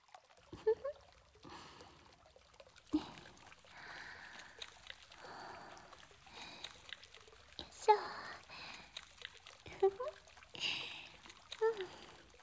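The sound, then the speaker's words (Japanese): Shampoo is worked into a lather, with wet squelching and squishing in uneven bursts and a brief pour of liquid, quiet and intimate with no talking. “シャンプーとコンディショナーを用意して、まずはシャンプーを泡立てていきます。”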